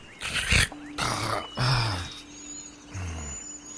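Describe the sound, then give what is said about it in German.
A deep monstrous roar with rumbling growls, sounding like a troll king or giant creature, rising and falling in several loud bursts over a few seconds. “Und es kommt nicht von deinen beiden Brüdern, sondern es klingt eher wie der Trollkönig, dem ihr gerade gegenüberstandet.”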